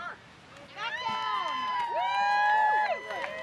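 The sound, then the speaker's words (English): At a sandcastle-building competition on a white-sand beach, a lively crowd of artists in swimsuits shouts orders and calls out all at once, many overlapping voices rising and falling, growing louder after the first second and staying energetic throughout. “Painters, sculptors, filmmakers, and performers in swimsuits move frantically, shouting orders and grabbing tools.”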